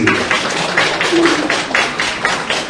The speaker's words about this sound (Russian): Разрешите объявить седьмой ежегодный турнир поселового многоборья в гимнастической перекладине «Русский силомер». Открытые аплодисменты!